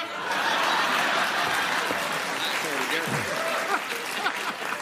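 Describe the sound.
A crowd claps steadily and loudly for several seconds, a dense, even wash of applause with scattered cheers and voices rising through it.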